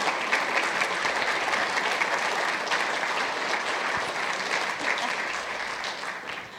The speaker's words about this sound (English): but first, let's give Christy and Haley a huge round of applause for this.